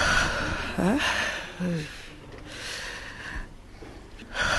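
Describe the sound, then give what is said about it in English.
Labored, uneven breathing from a traumatized older woman, with a few shaky voiced gasps catching in her throat, over a steady hiss of background noise. “Her breathing labored and clearly traumatized.”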